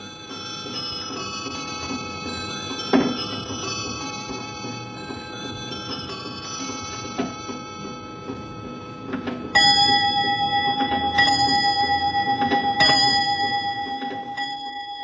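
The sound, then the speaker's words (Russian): An antique English mechanical clock made by Norton in 1715–25 plays a tune on small tinkling bells tuned to musical notes, bright repeated chimes ringing out over a soft ticking background, then a louder run of bell notes near the end. “Это часы английской фирмы Нортон, изготовленная 1715-25 год. Но все эти колокольчики, они в принципе сделаны по нотам звучания соответствующих звуков.”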